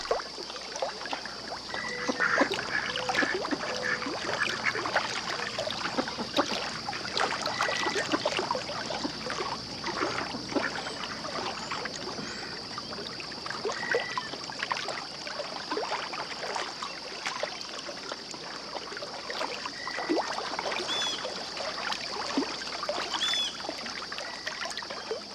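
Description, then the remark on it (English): Water laps and trickles steadily at a marshy bank of the Hudson River, with constant small gurgles and drips, under a continuous high, thin hiss throughout, and no voices. Recorded by Anea Lockwood for her CD A Sound Map of the Hudson River. “She recorded the ebbs and flows for a CD she calls A Sound Map of the Hudson River.”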